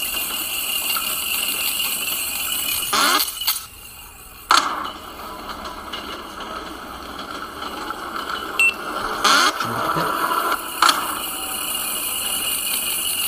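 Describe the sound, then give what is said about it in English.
Video game sound effects: a steady rolling rumble runs throughout, broken by a few short, bright whooshing bursts as the player jumps to collect coins and ducks a stalactite, and a brief high blip like a coin pickup, with no voices. “Got some coins. Jumping to collect them. Ducking the stalactite.”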